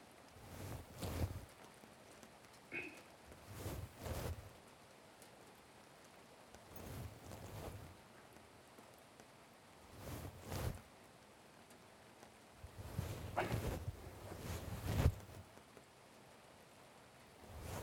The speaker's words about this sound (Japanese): 雨、やみそうもないな。この分なら明日も雨か。